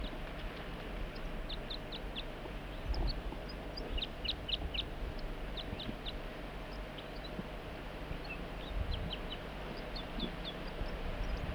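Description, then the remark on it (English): A wild bird calls in repeated bursts of short, high-pitched chirps, fairly faint, over a steady low rumbling background; no one speaks. “Start recording the wild bird and 4-3.”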